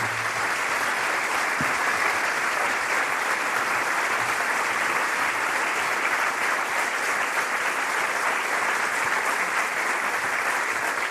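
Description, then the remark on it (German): An audience at an event in a castle claps steadily for a guest for about eleven seconds, a dense, even wash of many hands with no pauses or swells and no voices. “Alexandra Bleier, nochmal einen Applaus.”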